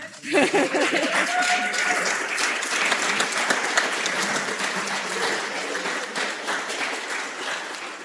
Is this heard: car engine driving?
no